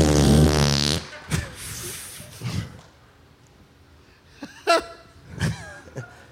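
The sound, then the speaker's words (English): A loud, buzzy fart noise blown right into a microphone for about a second, followed by a few short, scattered breathy bursts and quiet stretches. “Love a good mic fart.”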